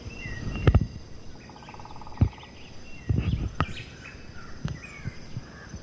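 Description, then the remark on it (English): A white-chinned thrush, black-faced grassquits and yellow-shouldered grassquits sing in scattered high chirps and short trills, fairly faint, broken by a few low, dull thumps and a steady background hiss. “There's also the white chin thrush singing, the black faced grass quit, the yellow shouldered grass quit.”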